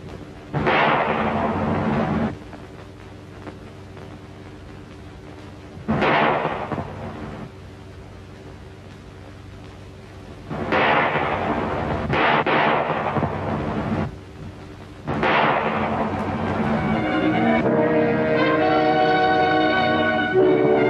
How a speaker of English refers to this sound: Shooting's over, the crowd surges past the dead bodies. Within 3 days, at least 17 men have been executed thus, on busy street corners.